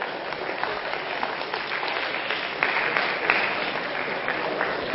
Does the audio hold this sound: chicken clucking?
no